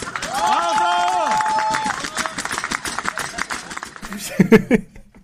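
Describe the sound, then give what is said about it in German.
Audience applause at the end of a live on-stage interview, a dense wash of clapping with whoops and laughter rising over it, fading after about four seconds into a few scattered voices. “Bis bald und das ist dein Applaus.”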